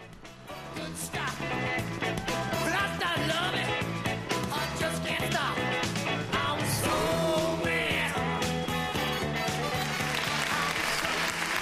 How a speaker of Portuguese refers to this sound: Momento de entretenimento, no final da audiência geral, o Papa aplaude, como toda a praça, para tirar um pouquinho da sensação de frio que nós estamos vivendo. 8 graus 9 nesse momento na Praça São Pedro.